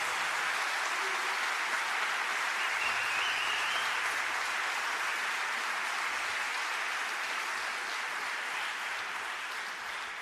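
Sustained crowd applause at a live recording, called for by the host, fills the whole stretch, a dense, steady wash of many hands clapping at an even loudness with no voices standing out.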